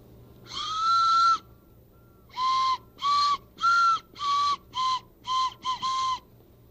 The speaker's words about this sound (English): Here's a whistle that looks like a hammer. But it's really a whistle.